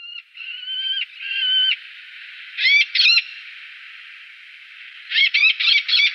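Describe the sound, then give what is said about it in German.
A played recording of an Eleonora's falcon calling: a few drawn-out, harsh nasal notes, then short bursts of rapid, scratchy high-pitched cries, loud against a steady hiss, with no voices. “Das war auch kein heimischer Falke, sondern der Eleonorenfalke.”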